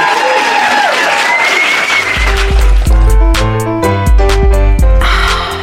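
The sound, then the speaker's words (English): A live show audience in Glasgow claps and cheers loudly for the host's guests at the end of the show, a dense, sustained roar with a few whoops on top; after about two seconds, a thumping music track with a steady beat kicks in over the ongoing applause. “Please give yourselves and all of my guests a massive round of applause.”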